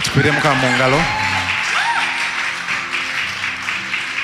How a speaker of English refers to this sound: Let's clap our hands.